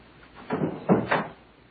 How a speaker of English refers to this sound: Can you shut the door? The drafts.